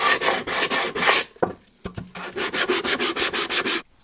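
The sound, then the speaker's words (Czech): Sandpaper rasps back and forth over the sharp edges of a glued plywood piece in quick, even strokes. A short pause with a couple of light knocks splits two steady bursts of scratchy, hissing rubbing. “Brusným papírem stehneme ostrý hrany.”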